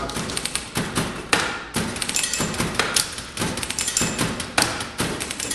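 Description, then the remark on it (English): Mechanical typewriters played by a band clack in dense, sharp bursts, the haphazard strikes gradually settling into a steady, regular rhythm; no voices are heard. “This moment of transition, when the random typewriter noise suddenly hitches into rhythm, is thrilling.”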